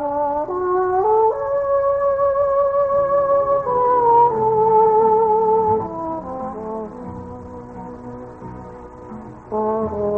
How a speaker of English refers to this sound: This, I say, is no foghorn off New York Harbor. This sounds like the trombone of that …